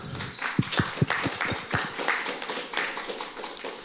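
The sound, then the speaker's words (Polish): An audience at a panel discussion breaks into applause for a guest, a few sharp, distinct claps standing out at first before the clapping thickens into a steady, moderately loud patter that carries on for several seconds without any talk. “Proszę o brawa.”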